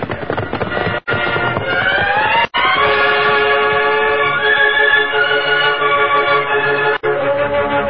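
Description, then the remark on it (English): A loud, sustained rumble of a westbound train from Laramie bearing down, with dense mechanical roar and bright whistling tones riding over it, interrupted by a few brief cuts to silence. “That's the westbound train.”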